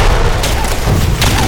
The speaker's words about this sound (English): Valentine silently implored him to move, but he ducked down at the gunfire.